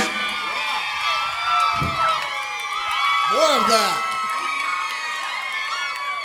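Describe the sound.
A dense crowd screams and cheers continuously, many high voices overlapping in loud, rising and falling shrieks that swell near the middle, while a single voice speaks briefly over the din.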